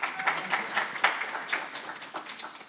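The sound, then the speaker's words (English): A crowd in a church applauds steadily for the church leaders' wives, a dense wash of many hands clapping at once with no voices over it, holding fairly loud before tapering off slightly toward the end. “Come and clap for their wives as well.”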